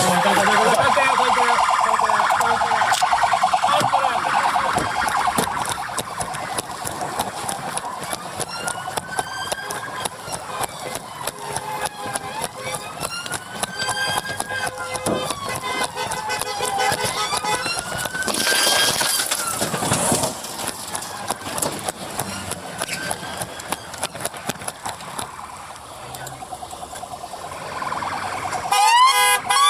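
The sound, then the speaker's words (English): A police car siren wails continuously during a chase of a car forcing its way through traffic, its pitch sweeping up and down over loud, rushing road noise, with a brief harsh burst of noise partway through. No one speaks. “Video at Kent Online shows the moment police started chasing it.”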